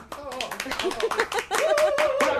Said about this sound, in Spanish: ¡Un aplauso! ¡Ese pedazo de equipo!